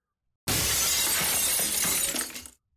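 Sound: glass shattering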